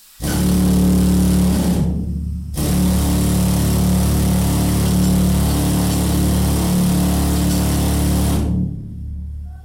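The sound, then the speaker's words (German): A loud pneumatic pick hammer, set up in a mine to show how miners drilled, runs in two long bursts, with a brief pause near two seconds, a harsh mechanical rattle and droning hum, then it stops abruptly. “Wir haben jetzt hier einen Abbauhammer eingerichtet, um eben den Leuten noch ein bisschen Feeling zu geben für die Mineure beim Bohren.”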